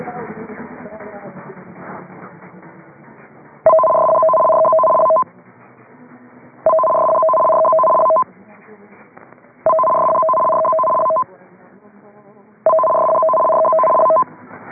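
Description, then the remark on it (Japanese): An emergency warning broadcast system test signal, broadcast in Japan on the Nippon Hōsō station for checking dedicated receivers: four loud, evenly spaced bursts of a warbling two-tone electronic signal, each lasting about a second and a half, following a few seconds of talk with quieter sound between bursts. “ただいまのは緊急警報放送システムの試験信号でした。”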